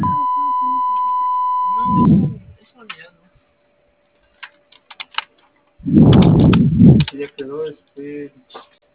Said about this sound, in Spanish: Por favor, deje su mensaje después del tono. Si requiere volver a grabarlo, presione el símbolo de número y espere indicaciones.